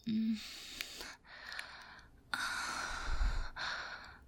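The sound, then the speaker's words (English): Heavy, deliberate breathing, a few long breathy inhales and exhales with gasping, sighing edges, loud and airy with no talking. “Breathing heavily, and if I started moaning and begging right in your ear”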